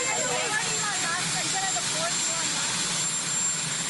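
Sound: airplane noise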